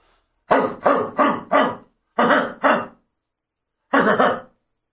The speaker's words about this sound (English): I don't like that bark. I know. That was weird. Very staggered.